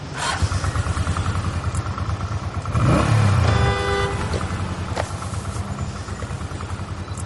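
A motorbike engine drones steadily up close, swelling louder for a moment near the middle with a brief horn-like tone, then settling back into a continuous rumble amid traffic noise.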